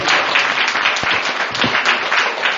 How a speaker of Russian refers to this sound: Давайте друг другу похлопаем.